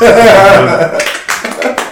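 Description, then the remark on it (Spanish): A few sharp hand claps ring out loudly in the second half, following a stretch of voices and whistling-like tones from a small crowd. “Si les estoy escuchando que chiflan y aplauden, pues ninguno está bebiendo, güey.”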